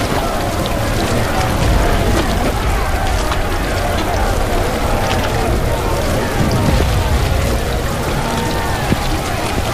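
Steady rain falls heavily and continuously, a dense hiss of drops pattering on surfaces, with scattered sharper taps and a low rumbling undertone throughout.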